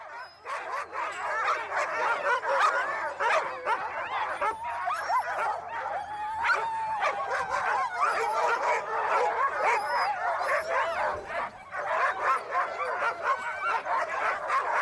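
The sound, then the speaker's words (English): Dozens of huskies bark and yip nonstop before a race in the Dryland Race Series at the Chugiak Dog Mushers Association in Chugiak, Alaska, many dogs overlapping into a loud, excited din with occasional whines and howl-like cries throughout. “That is dozens of huskies ready to run in this year's Dryland Race Series presented by Alaska Dog Works at the Chugiak Dog Mushers Association in Chugiak, Alaska.”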